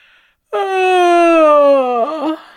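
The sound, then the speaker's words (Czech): A single loud, sleepy yawn voiced in one long drawn-out breath, its pitch sagging slowly before it wobbles and trails off at the end. It stands alone. “Hlasitě zívla i Leonka, Majda a Hanča.”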